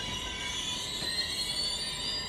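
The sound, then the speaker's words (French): A steam locomotive train rolls steadily along the rails around Paris, a continuous rumbling roar topped by sustained high metallic squealing from the wheels, loud, with no voices. “Il est forcé de se laisser conduire au rythme de la locomotive, au rythme de la vapeur.”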